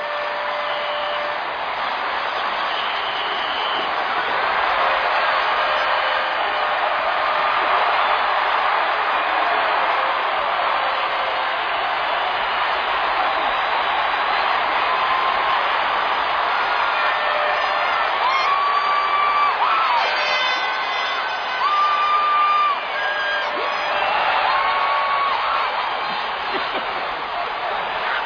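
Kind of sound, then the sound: crowd, stadium crowd cheering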